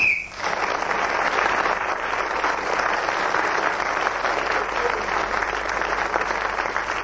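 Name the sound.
referee's whistle blown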